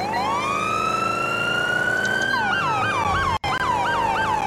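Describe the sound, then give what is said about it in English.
A loud Highway Patrol vehicle siren rises in a long wail, then switches to a quick yelp pattern of rapid repeating up-and-down sweeps, briefly cutting out near the end. “I gotta fix the sirens. The, what's it called? The Yelp siren is slow than the Hyper Yelp.”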